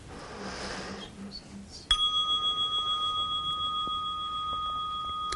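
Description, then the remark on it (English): A single small bell is struck once during a meditation session and rings out clearly, its bright metallic tone sustaining and slowly fading over several seconds in quiet. “There'll be a little bell ring.”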